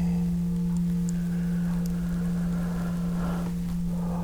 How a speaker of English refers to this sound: Just follow the sound of the bell deep into the body.